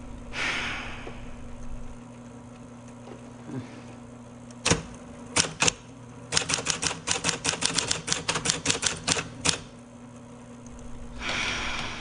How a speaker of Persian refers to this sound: این منم که نشستم تا خبر مرگم رو تایپ کنم.